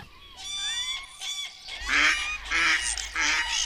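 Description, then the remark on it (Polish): A starling sings a run of mimicked bird calls, imitating common buzzards, chickens, cranes and mallards: honking, goose-like and duck-like notes in quick, loud bursts, with no talking. “Takie nagrania szpaka, w którym da się usłyszeć myszołowa, da się usłyszeć kury, da się usłyszeć żurawie, krzyżówki, jeszcze parę innych gatunków.”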